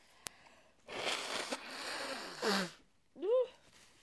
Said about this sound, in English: No, leave my tissue alone. See, I'm trying to blow my nose.